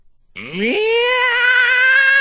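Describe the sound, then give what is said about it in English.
A single long, loud cat meow in the Singing Stone Plaza subway station that slides upward in pitch, then holds a steady, strained wailing tone for nearly two seconds. “A cat! There's a cat in the subway!”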